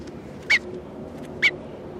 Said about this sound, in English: This is bird 301 being handled.